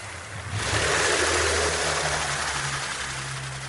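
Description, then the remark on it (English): A distant small outboard motor on a little skiff driving away, heard underwater: a low, steady droning hum beneath a wash of hissing water noise, continuous throughout with no voices. “That sound we're hearing of the boat in the distance, would that be similar to the sorts of sounds a turbine underwater might make?”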